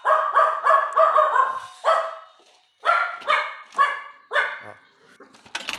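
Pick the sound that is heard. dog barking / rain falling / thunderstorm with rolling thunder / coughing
dog barking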